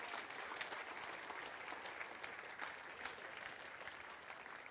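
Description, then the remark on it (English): An audience at a morning church service claps steadily for the Lord, dense overlapping hand claps forming a sustained wash of applause at an even loudness throughout, with no one speaking. “Come on, give the Lord a good clap off for this morning, would you?”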